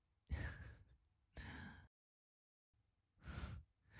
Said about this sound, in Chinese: 哎，你怎么还打哈欠？很困吗？不是吧，这都一个月没见到自家老公了，居然还打哈欠。